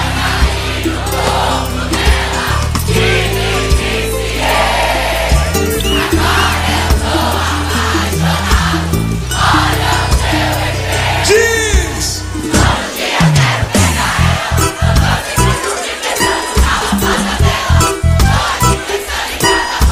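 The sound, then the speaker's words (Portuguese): A big crowd lets out a loud, sustained roar of shouting and cheering over music, which gives way after a while to a punchy, rhythmic beat. “Aquele gritão gostoso, vai.”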